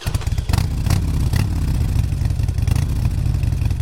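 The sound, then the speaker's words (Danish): A motorcycle engine runs steadily and loudly throughout, with a deep, rapid low rumble and occasional clattery bursts as it revs slightly. No voices. “Og ja, jeg tænker selvfølgelig helt specifikt på brugen af motorcykler.”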